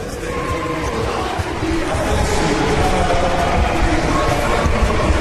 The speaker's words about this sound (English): If you're angry, I think I found a video for you. Oh, yeah? Do you know anything about the New Zealand haka dance? No. Check it out.